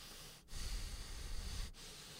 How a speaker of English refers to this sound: Who's breathing so?